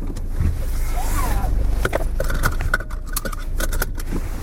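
Rustling and swishing of a rain jacket being pulled on during a spell of heavy rain, with crisp fabric crinkles and a few sharp clicks over a low outdoor rumble.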